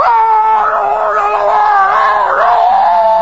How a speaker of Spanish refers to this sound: Porque si usted va al dentista, por ejemplo, sí, y se siente en la sala de espera y ya oye los gritos de que está dentro.